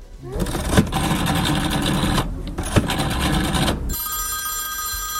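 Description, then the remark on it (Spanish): The rotary dial of an old-fashioned mobile phone is spun twice. Each turn is a buzzing, clicking whir that runs for about a second or two. A steady, high electronic ringing tone follows. No one speaks. “Soy el único que tiene un teléfono móvil con el disco, ¿eh? Antiguo.”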